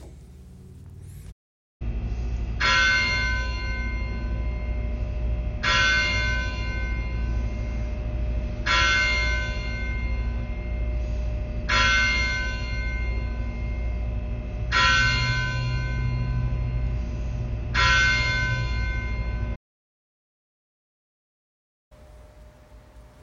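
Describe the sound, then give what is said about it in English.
The church bell of Christ Church tolls six times at a slow, steady pace before the 6 p.m. Compline service, each strike ringing out loud and full and hanging in the air before the next, with no voices present. “The service began at 6 o'clock p.m., after the tolling of the church bell.”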